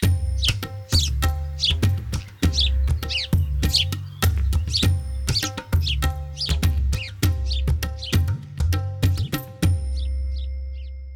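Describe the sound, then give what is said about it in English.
A house sparrow (Passer domesticus, an Old World sparrow of the family Passeridae) chirps in quick, busy bursts of short bright notes over a steady low hum, then falls quiet except for a few faint chirps at the end. “The house sparrow belongs to the avian family Passeridae.”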